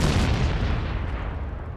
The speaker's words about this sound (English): Boom.